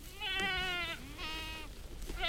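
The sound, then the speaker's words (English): Goats bleat in quick succession, two long wavering calls followed by the start of a third, loud over a low outdoor rumble; a herd of goats grazing in a field of brush just north of Auburn in the Sierra Nevada foothills, California, under the hot afternoon sun. “In a field of brush just north of Auburn in the Sierra Nevada foothills, a bunch of goats are grazing under the hot afternoon sun.”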